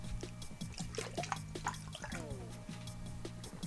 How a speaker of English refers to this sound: Let me get some water, by the way, here. Some water.